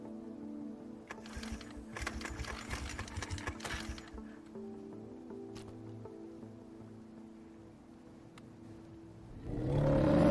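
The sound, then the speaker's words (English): A small outboard motor on a single-mast dinghy at a wooden dock is yanked with a few sharp pull-cord tugs, then settles into a steady, rattling mechanical drone, with a louder surge of noise at the very end. “He takes up the pull start cord.”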